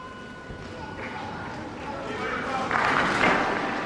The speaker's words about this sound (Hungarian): A mai napon is tapsal köszönik meg Ferenc pápa tanítását, áldását.